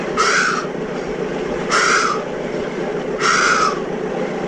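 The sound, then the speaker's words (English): A voice imitates breathing heard during a surge lasting 2 or 3 minutes, which sounded like a horse panting after a run: three harsh, raspy, breathy bursts, each about half a second long, evenly spaced over a steady hiss of background noise. “And it was fantastic itself, that, because it was sounded exactly like a horse that had been running. And it was sounded like this.”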